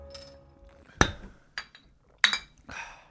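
Glass beer bottles clink together in a toast several times in quick succession, sharp bright knocks with short ringing tails, separated by brief pauses and no talking.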